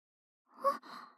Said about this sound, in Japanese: あ、先輩、大きなあくび。眠かったらこのまま寝ちゃってもいいですよ。